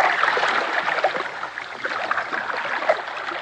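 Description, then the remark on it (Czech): A boat pushes steadily through water full of large pieces of ice, with continuous sloshing and rushing splashes and small bumps and gurgles throughout. No voices are heard. “Pokračovali jsme v naší plavbě. Všude kolem nás byly velké kusy ledu.”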